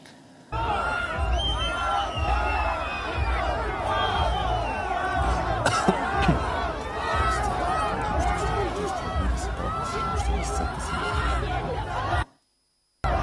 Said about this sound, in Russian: В Уфе под крики «Позор!» полицию тоже закидали снегом.